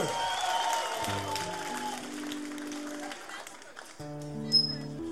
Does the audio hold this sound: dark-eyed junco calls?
no